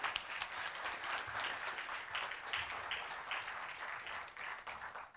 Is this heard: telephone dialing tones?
no